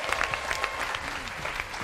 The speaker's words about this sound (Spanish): Sí que, oye, os veo tímidos. Vamos a hacer un aplauso todos para que vean que aquí hay mucha gente. Venga, así suena.